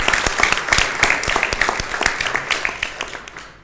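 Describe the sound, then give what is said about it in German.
Steady audience applause from many hands given for Jesus, a dense crackle of claps that holds strong before gradually thinning and fading out near the end. “Gib Jesus dann einen ganz festen Applaus.”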